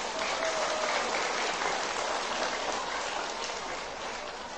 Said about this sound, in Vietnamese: Xin dành một tràng vỗ tay thật lớn.